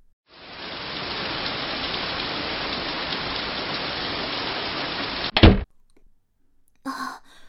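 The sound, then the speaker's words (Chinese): Heavy rain pours down in a dense, steady hiss for about five seconds, then cuts off abruptly with a thud, followed by a brief breathy exhale. “好大的雨啊，身上都被淋湿了。”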